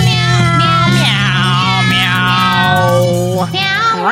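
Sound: angry cat meowing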